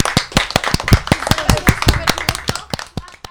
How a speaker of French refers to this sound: Eh ben, ma foi, tonnerre d'applaudissements pour tout le monde. Allez, on applaudit.